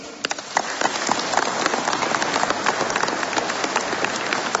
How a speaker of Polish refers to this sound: Matka Boża dzisiaj cieszy się z każdej i z każdego z was, którzy przybywacie do jej sanktuarium w Ludźmierzu, ale także siebie nawzajem jeszcze nie przywitaliście gorącymi oklaskami. A zatem gdzie te oklaski?